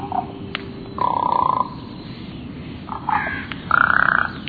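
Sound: raven calling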